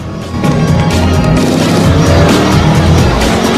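A large 4x4's engine roars steadily as it speeds at night after a man on foot, a loud continuous motor drone with a rising rumble and faint hints of tire noise, no voices.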